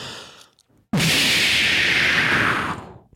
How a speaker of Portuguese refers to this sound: Bombinha de fumo.